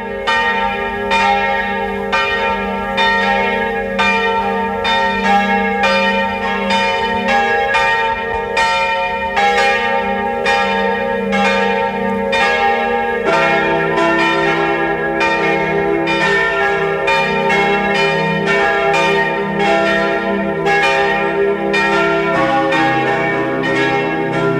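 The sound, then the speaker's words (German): A peal of the parish church bells of Mistelbach, Lower Austria, rings at 12 noon, continuously and loudly, overlapping strikes forming a dense, shimmering wash of tones with a steady rhythm and no voices. “Es ist 12 Uhr. Sie hören die Glocken der Pfarrkirche Mistelbach, Niederösterreich.”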